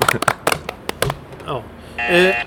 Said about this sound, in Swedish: Ja, en liten applåd.